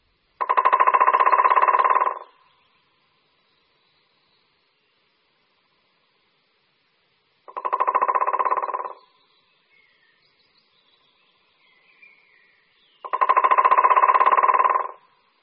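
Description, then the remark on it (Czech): Three long, rapid drum rolls from a white-backed woodpecker, each lasting a second or two and separated by pauses, with faint bird calls in the quiet gaps between them. “Slyšeli jsme bubnování strakapouda bělohřbetého.”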